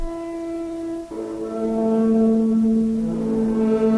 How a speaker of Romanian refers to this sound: Tulnicul de pe maguri, tulnicul de alarmă, nu dorm moții.